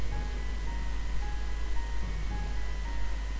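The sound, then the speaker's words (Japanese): A distant ambulance siren wails with steady tones, faint beneath a constant low rumble and hiss. No one speaks. “その時また遠くから救急車の音が聞こえた。”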